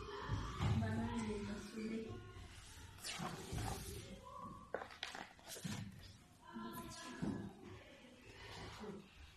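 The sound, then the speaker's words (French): A bear roars in terror as an eagle snatches a cub in each talon: a series of loud, wavering howls and rough growls that rise and fall, continuing with brief pauses for several seconds. “Ours hurle de terreur et le cœur d'Odd frémit.”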